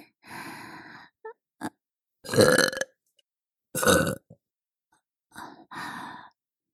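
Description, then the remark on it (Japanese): A series of loud burps from a mother, some long and drawn out, separated by short pauses and small breathy sounds. “ママのゲップ、甘くて臭くていい匂い。”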